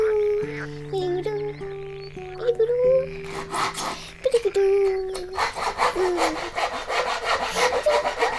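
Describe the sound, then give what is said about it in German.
A short tune plays first, then rapid, steady scraping and knocking of woodwork as boards are nailed together, a dense rhythmic series of sharp strokes filling the second half. “Wow, ein paar Bretter zusammennageln macht mir Spaß.”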